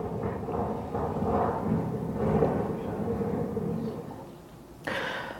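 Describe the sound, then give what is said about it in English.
Heavy storm surf from Storm Gloria on the Mediterranean Sea in Spain roars and pounds continuously against houses, deep rumbling surges rising and falling, with a sharp fresh crash of water near the end. “Yes, those are waves hitting houses.”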